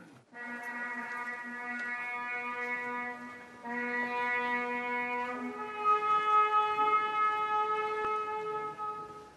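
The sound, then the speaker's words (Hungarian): A ceremonial horn blows long, steady, reedy notes at the opening of the Holy Door of the Papal Basilica of St Paul Outside the Walls, led by Cardinal James Michael Harvey, pausing briefly before a second and third sustained tone that shift in pitch. It plays alone and fairly loud, with no voices. “A zsoltáros szavai és a kürt hangja kísérte az utolsó szentkapu megnyitásának szertartását a falakon kívüli Szent Pál pápai bazilikában, amelyet január 5-én vasárnap délelőtt James Michael Harvey bíboros érsek vezetett.”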